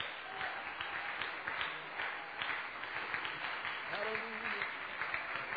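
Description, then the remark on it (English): A church audience claps steadily and densely for several seconds in praise to the Lord on a Thursday afternoon, a broad wash of many hands, with a voice briefly rising above the applause near the end. “Why don't we clap our hands together to the Lord?”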